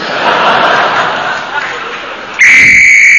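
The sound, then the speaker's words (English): A shrill, steady danger whistle suddenly blasts in loud, holding one piercing note after a stretch of murmuring crowd noise, warning that men in the tunnel are about to start blasting. “That's a danger whistle. It means the men in the tunnel are going to start blasting.”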